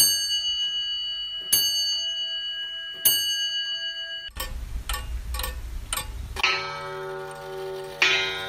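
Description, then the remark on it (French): A comtoise pendulum clock chimes with three ringing, evenly spaced bell strikes, then a stretch of mechanical ticking and whirring before rich bell tones ring out again, clear, with no voices. “Alors on est bien d'accord, hein, c'est pas une horloge comtoise que va offrir Matteo Ricci à l'empereur, mais c'est une des premières horloges qui sont faites donc en Occident et qui vont servir donc de cadeau d'introduction.”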